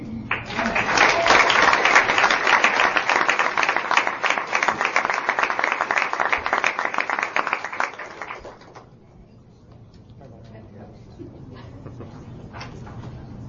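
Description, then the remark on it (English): At a school event announcing and honoring students by grade, an audience bursts into steady, loud applause that holds for about eight seconds, then drops off quickly, leaving a few scattered claps and faint murmur. “But we clap anyway.”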